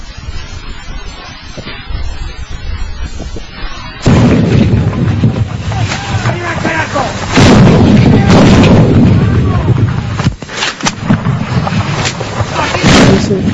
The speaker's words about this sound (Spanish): Seguían más explosiones. Y el turco dijo, oigan, Se están tirando de todo.